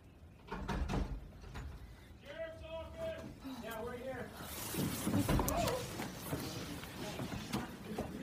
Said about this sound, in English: And that's when they were taken by surprise by a knock at their door. A student recorded what happened on their phone.